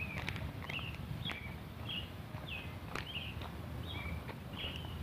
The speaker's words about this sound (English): There are little birds chirping off in the bushes over here.